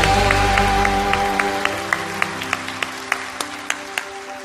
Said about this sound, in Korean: 오늘도 살아 역사하시는 하나님께 영광의 박수 올려드리겠습니다.